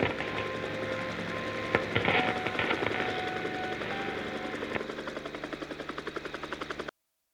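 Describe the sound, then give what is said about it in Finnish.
An unidentified helicopter sets down on the field next to the radio building, with a loud, steady engine whine and rapid rotor chop; the thudding pulses slow and grow more distinct as the noise gradually eases before cutting off. “Lennonjohto ilmoittaa, että tunnistamaton helikopteri on lähtenyt hotelliväärän värisestä elefantista. Ei vastaa yhteydenottopyyntöihin laskeutumassa radiotalon vieressä olevalle kentälle.”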